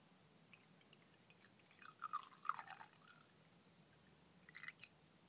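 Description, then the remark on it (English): A 50% strength drink trickles and drips into a small glass, quiet: a short cluster of soft splashes, a pause, then one last drip. No one speaks. “I'm now just going to tongue the end of the bowl because that drip didn't not want to be wasted.”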